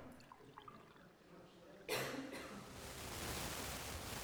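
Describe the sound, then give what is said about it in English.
Water is poured after a quiet start, beginning as a sudden splash and settling into a steady, rushing hiss that grows slightly fuller as it continues. “Get some water.”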